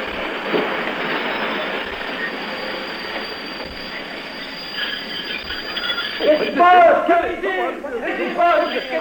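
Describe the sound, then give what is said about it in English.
A train grinds and rumbles along, then loud metallic wheel squeals rise and wail as it brakes hard after the emergency cord is pulled, with voices talking over the noise near the end. “Well, the old emergency cord, of course.”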